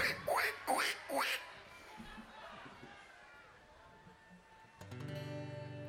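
Ducks being fed quack three times in quick succession, loud, then fade into a quieter outdoor background before a steady droning hum starts near the end.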